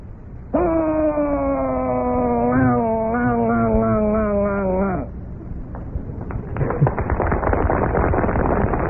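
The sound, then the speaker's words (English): A voice imitates an outboard speedboat on slightly choppy water: a steady, buzzing drone that wavers slightly in pitch for about four seconds, then gives way to rough, choppy splashing noise. “All right, now, call back to your mind the sound of that outboard speedboat on slightly choppy water.”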